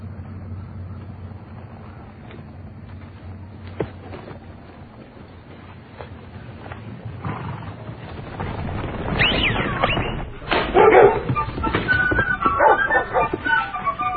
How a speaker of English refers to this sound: But believe me, trying to get these dogs to run through the gates was not easy.